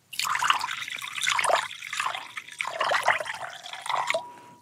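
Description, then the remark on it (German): Thick liquid, soup, is poured into a deep plate in one steady stream of a few seconds, splashing and gurgling unevenly before it tapers off. No one speaks. “Aber pass auf, nicht ins Glas, sondern tatsächlich in einen tiefen Teller.”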